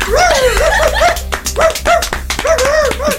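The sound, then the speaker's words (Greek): A kokoni and beagle mix dog barks in a quick, excited series of high yips, with no one talking over it and a steady low hum underneath. “Οπότε και εγώ πήγα και βρήκα τον καλύτερο σκύλο που υπάρχει σε αυτό εδώ το ραδιοφωνικό πλανήτη.”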